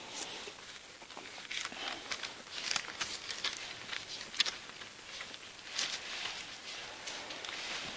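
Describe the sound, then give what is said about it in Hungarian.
Thin Bible pages rustle and flip, a steady run of soft papery swishes and crinkles for several seconds as someone leafs through to Romans 10:17, with no talking. “Róma 10:17-hez szeretnék lapozni.”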